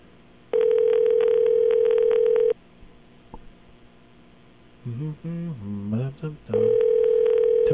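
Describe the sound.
A telephone ringback tone on a call to a payphone in Hawaii: a steady electronic buzz lasting about two seconds, a pause, then the buzz returning. A person talks briefly during the gap.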